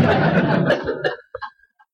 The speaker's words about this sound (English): Big laughs, several coughs. It's disgusting. He gets laughs with that. That's not funny. And some coughs because, you know.